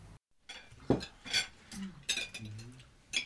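Dishes and cutlery being gathered up close by, with several sharp clinks and clatters at irregular intervals and softer handling noises between them.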